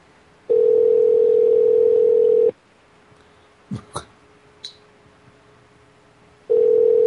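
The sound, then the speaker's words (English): An emergency phone line rings through the earpiece: long, steady single-pitch tones separated by a lengthy silence, with a few faint clicks in the gap and nobody picking up. “For being an emergency phone, they sure aren't in a hurry to pick it up.”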